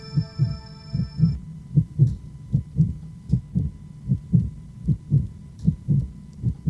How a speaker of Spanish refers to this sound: Y por un instante, el tic-tac de su pecho sonó como el latido de un corazón.